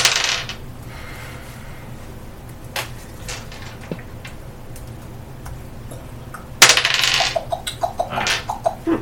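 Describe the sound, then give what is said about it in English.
Hard little clattering hits on a table, a few scattered clicks early on, then a loud burst of rapid tumbling taps that bounce and settle over about two seconds, no talking. “Now I gotta roll.”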